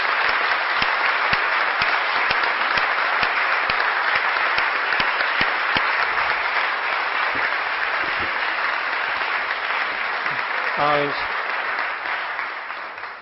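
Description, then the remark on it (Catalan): An audience applauds steadily for over ten seconds, a dense, loud wash of many hands clapping that fades slightly at the end, with a brief voice cutting in near the close. The applause is for councillor Vicent Pastor. “Jo sí que demano un fort aplaudiment per Vicent Pastor, que avui no està aquí.”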